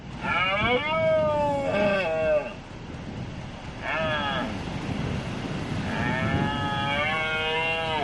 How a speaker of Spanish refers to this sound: Ha comenzado la berrea del ciervo, que es, como sabes, un reclamo turístico, sobre todo en la provincia de Cáceres.